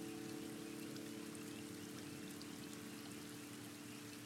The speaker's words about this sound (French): Laissez-vous respirer à votre rythme, de façon légère et naturelle, comme cette pluie fine qui nous apaise.